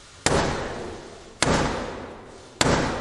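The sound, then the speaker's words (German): Three loud, sharp knocks of Black Rod's black staff on the heavy door of the House of Commons, evenly spaced about a second apart, each ringing out with a booming echo. “Dann nimmt Blackrod ihren schwarzen Stock, den sie hat, und klopft damit dreimal an die Tür.”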